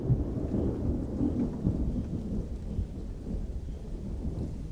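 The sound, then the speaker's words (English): A thunderstorm: deep, rolling thunder rumbles steadily under a constant wash of rain, moderately loud and sustained throughout, with no voices. “It must have been, when the lightning storms that they had, it must have been fantastic to be there and rather frightening.”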